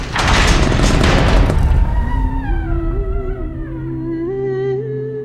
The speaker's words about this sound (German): Mutig öffnet er die Tür des Schlosses.